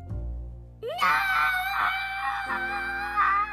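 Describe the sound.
A long, drawn-out scream of "no" voicing Bingo, a character from a Bluey picture book being read aloud at bedtime, loud, rising sharply in pitch and held for several seconds with a wavering, wailing tone before it cuts off.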